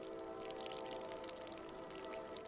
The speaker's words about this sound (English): it's quiet in the J.Q. Dickinson Sun House, except for the sack of salt dripping dry.